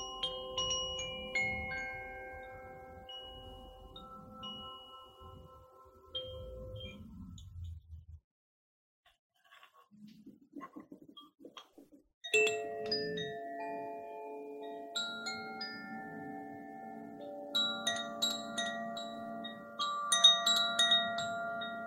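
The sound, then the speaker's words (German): Koshi bamboo wind chimes, the Water and Earth element sets, ring out in shimmering clusters of sustained, bell-like tones, fading to near quiet midway before the second chime set starts with brighter, higher overlapping notes. “Und die sind den Elementen zugeordnet von den Herstellern von Koshi, das ist eine Marke.”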